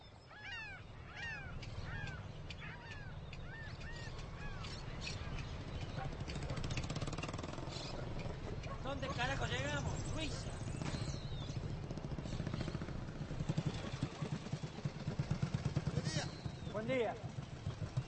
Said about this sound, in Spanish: Anda mal esa moto, ¿eh?